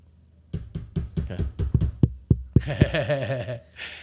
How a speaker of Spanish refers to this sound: Llegan a la puerta de alguien y tocan a la puerta.